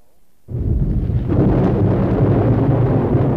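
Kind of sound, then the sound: nature, thunderstorm with rain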